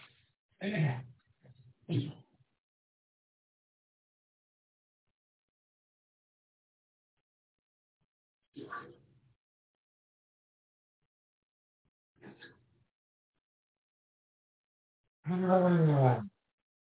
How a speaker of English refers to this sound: My bad. I had to clear my throat.